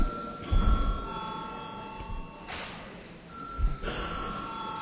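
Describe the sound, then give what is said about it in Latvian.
A voting bell in the Latvian Saeima (parliament) rings in a steady, sustained tone for several seconds, calling deputies to vote on a bill in its second reading, with a couple of dull thumps and soft room noise around it. “Lūdzu deputāts balsot par likumprojektu pieņemšanu otrajā lasījumā. Lūdzu zvanu.”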